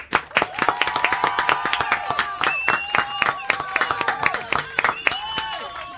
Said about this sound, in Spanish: Voy a pedir un aplauso fuerte, que sea genuino el aplauso, pido eso, que sea genuino, ¿sí? Con nosotros el señor Daniel Hendler.